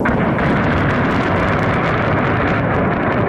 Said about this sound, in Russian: Вновь под огнем Николаев, за сутки город пережил сразу два обстрела, первый вечером 3 апреля. Взрывы зафиксировала камера наблюдения в частном секторе.